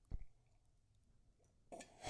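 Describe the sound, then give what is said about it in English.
A short slurp of hot coffee, a breathy sucking burst near the end, preceded by a soft thud like a mug being set down. “Just listen to you slurp.”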